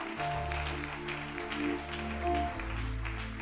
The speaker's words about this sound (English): People are still coming. Can we give a powerful clap offering?